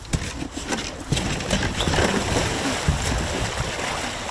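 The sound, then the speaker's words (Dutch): Water sloshes and splashes steadily around a small new canoe as it glides along, with a continuous rushing wash and occasional sharper splashes. “Hoe vaak ben je met een andere kano omgeslagen?”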